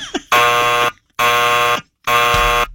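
Three loud, harsh buzzer blasts, each about half a second long, separated by short silent gaps. The tone is steady and rasping, with no talking.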